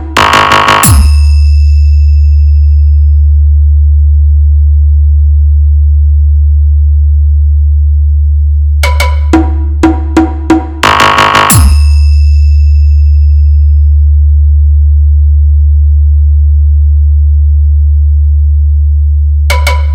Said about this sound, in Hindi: आइए अब आपको सुनाते हैं अपने डीजे का तबाही मचाने वाला वाइब्रेट बेस।